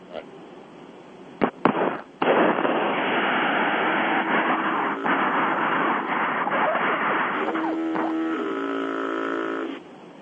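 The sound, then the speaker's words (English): A loud, steady roar of highway traffic on Interstate 5 near Tulare, recorded from a car, then near the end a truck air horn blares, a long, low, brassy blast rising above the rumble before cutting off. “I heard what sounded like a foghorn, yeah. Yeah, this is the harassment from these truckers.”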